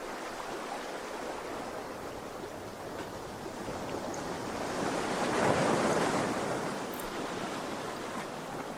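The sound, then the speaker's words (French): Steady, hissing surf of sea waves washing onto a shore under sunshine and a light breeze, with one wave swelling louder in the middle before easing back into a continuous rushing wash. No voices are present. “Voyez les rayons de soleil qui scintillent sur les vagues.”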